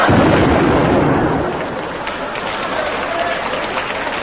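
A loud cannon blast opens with a dense, rumbling burst that booms for over a second, then decays into a crackling, noisy roar that lingers to the end.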